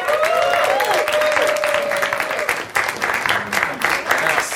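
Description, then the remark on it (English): Loud, sustained audience applause for comedians Johnny Pemberton, Ben Kronberg and Kyle Kinane as they are brought to the stage, with dense, rapid clapping throughout, joined by a few whoops and high cheers over the top. “Ladies and gentlemen, big round of applause for Johnny Pemberton, Ben Kronberg, and Kyle Kinane.”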